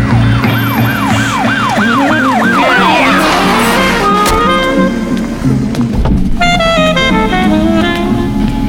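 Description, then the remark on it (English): Loud police sirens wail, rapid rising-and-falling sweeps giving way to steadier overlapping tones, over a low rumble of traffic. No one speaks. “Miles away they were smiling to the sound of doubt that could only be police sirens.”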